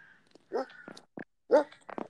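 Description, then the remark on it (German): A dog named Akula, belonging to a friend, gives a few short, irregular barks or yelps, one noticeably louder than the rest, with brief pauses between the bursts. “Ja, da ist ein Hund, aber der gehört nicht mir.”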